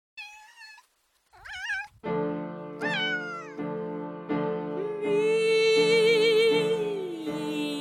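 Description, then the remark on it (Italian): Two high soprano voices sing imitation cat meows in the Comic Duet for Two Cats (Duetto buffo di due gatti), an 1825 composition for two sopranos and piano, first alone in short swooping phrases, then over steady piano chords, ending with a long vibrato-laden sung note above the accompaniment. “Duet e Comic Duet for Two Cats, è una composizione musicale risalente al 1825, pensata per essere eseguita da due gatte soprano accompagnate da un pianoforte.”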